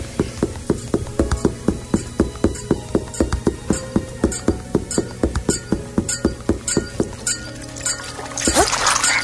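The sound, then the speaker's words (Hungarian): A slimy beast in a video game, not water, slurps and squelches in a steady run of quick wet clicks over a low droning hum, ending in a louder gurgling wash. No one speaks. “Egy olyan bestia volt, ami nem kevenderül össze a vízzel, ugyanis az ilyen szörcsögös, nyálkás hangja van, de ha az nekünk jön, akkor nagyjából néven ilyet erőnket veszi le.”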